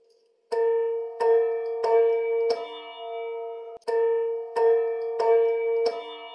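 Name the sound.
bell ringing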